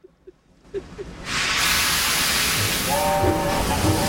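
At a busy train station platform, a steam train suddenly releases a loud, sustained hiss of steam after a quiet start, with a brief whistle tone sounding near the end.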